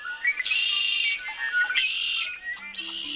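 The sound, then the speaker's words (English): Birds returning in spring sing in bright, high, buzzy bursts, each phrase lasting about a second, with several voices overlapping and a few short chirps between them. There is no talking. “Do you get that excited when you hear the birds come back in the spring?”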